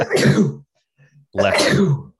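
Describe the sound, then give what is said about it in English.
Two loud sneezes, each a harsh burst of about half a second, separated by a brief pause with a faint sniff-like sound between them. “Bless you.”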